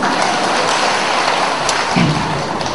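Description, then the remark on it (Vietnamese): A crowd at a Buddhist teaching session applauds, a loud, dense, steady patter of many hands clapping with no individual claps standing out, sustained without pause and with no one speaking. “Rồi thôi cho chồng pháo tay nữa.”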